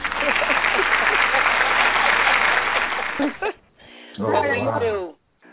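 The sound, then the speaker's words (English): Steady, dense hand clapping from a group runs for about three seconds, then cuts off abruptly. A voice follows, speaking over a quieter background. “Let's do some hand clapping here.”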